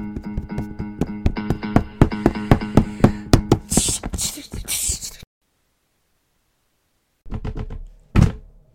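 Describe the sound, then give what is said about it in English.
Someone tries to open the locked door of a janitor's room: the handle is rattled and the door thumps against its frame in quick repeated jolts for several seconds, then everything goes quiet before a brief clatter and a sharp knock-like thud. “Oh, no, the door's locked.”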